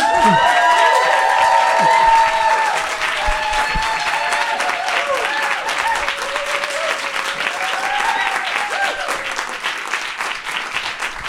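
Warm audience applause fills the room, dense and steady with cheerful whoops and a few voices rising over the clapping, which gradually thins toward the end.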